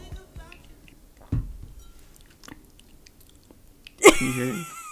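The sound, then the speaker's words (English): Quiet wet mouth noises after a sip of water, made to recreate the sound of saliva and lips lifting off the teeth when smiling: a few soft lip smacks and saliva clicks, then a sharper, louder smack with a brief voiced sound near the end. “Like, where you're like your lips are lifting smiling off of your teeth.”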